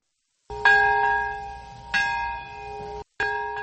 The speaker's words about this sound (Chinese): 在原子弹70年前爆炸的那一刻，长崎和平公园响起钟声。